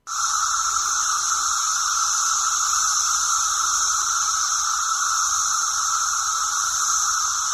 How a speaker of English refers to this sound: Okay, these sounds like the phaser in the original Star Trek to me, but these are, in fact, Brood 10 cicadas. Brood X, you may have seen them listed, but it's a Roman numeral. Brood 10 cicadas in Vermilion County.